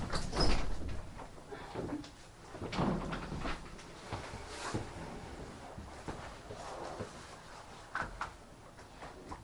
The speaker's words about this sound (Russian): Там можно дверь, наверное, открыть.